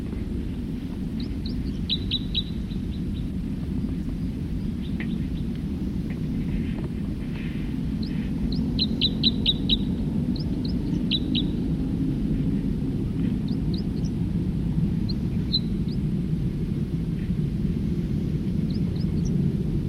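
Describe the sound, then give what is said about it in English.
A songbird sings a few short phrases of quick, high chirping notes spaced out over twenty seconds, fairly faint above a steady, heavy low rumble. “Start recording another songster.”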